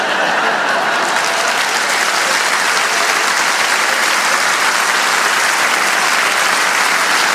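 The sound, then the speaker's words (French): A large audience of UDC party supporters claps steadily in a hall, a dense, sustained wash of applause at a fairly loud level, with no voices standing out above it for the whole stretch. “Et tous mes sympathisants UDC qui applaudissent dans la salle sont d'accord avec moi.”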